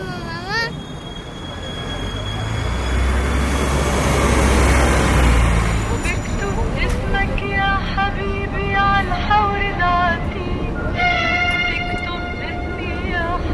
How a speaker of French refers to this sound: Et nous roulons en direction de la frontière macédonienne. Le bus est plein, comme le bateau l'était lorsque nous avons fait la traversée de l'île de Chios jusqu'à Athènes. Ce bus nous amène à la frontière macédonienne,